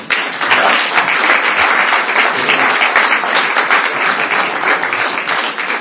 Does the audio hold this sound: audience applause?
yes